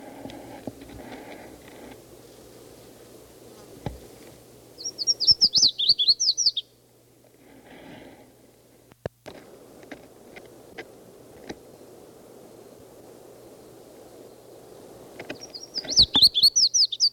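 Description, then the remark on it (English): Red-faced warbler song: two bursts of rapid, high, sweet chirping notes, each a couple of seconds long, separated by a quiet stretch of soft rustling and scattered clicks. “It's a red-faced warbler again.”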